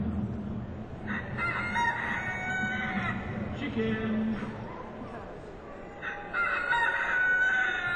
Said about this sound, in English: Chickens!